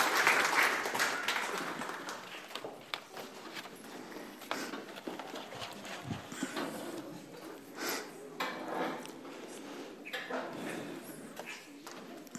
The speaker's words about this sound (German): Ein Applaus für die Helfer.